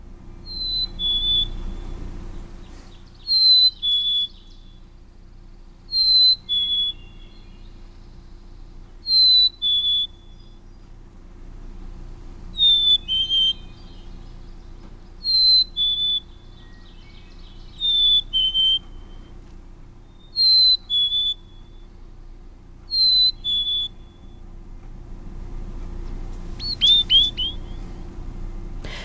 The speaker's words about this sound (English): why don't we hear the black-capped chickadee's Hey Sweetie song, and here it is.